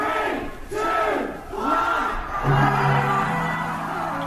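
A large crowd at Heaven, a gay nightclub in Soho, London, roars and cheers in loud, rising waves as the club opens at midnight, with shouts and whoops swelling together and a sustained pitched yell near the end, no distinct speech.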